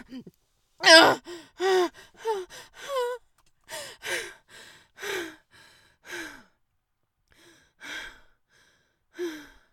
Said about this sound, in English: Breathing heavily and quivering.